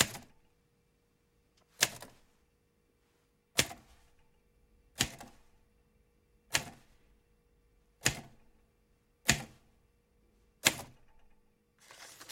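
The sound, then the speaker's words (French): Manual typewriter keys struck one at a time with an index finger, slowly and deliberately, typing letters onto a sheet, about eight sharp clacks spaced evenly roughly every second and a half, clear with quiet gaps between. “Son index droit cherche les touches. Sur la feuille, la lettre O s'imprime à la suite d'un R, puis un S, un E.”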